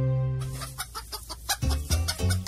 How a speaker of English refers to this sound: get that chicken out of here.